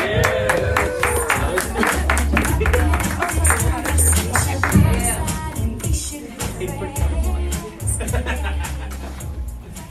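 An audience claps their hands in a dense, steady round of applause that stays loud for the whole stretch, with crowd noise and a low rumble underneath.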